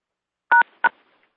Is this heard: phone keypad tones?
yes